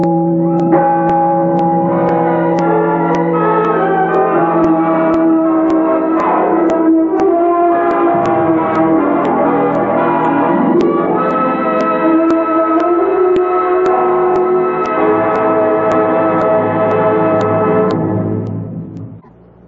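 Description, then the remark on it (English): A large town bell tolls loudly and steadily, shaking the whole building, its deep, rich overtones ringing and overlapping for nearly twenty seconds before the sound fades out at the end. “Listen. It shakes the whole building.”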